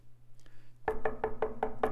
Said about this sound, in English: You hear a knock at the door. You go to the door, and Paul is standing there, and he asks one question.